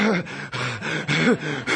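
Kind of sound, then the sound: vocal imitation, imitated heavy breathing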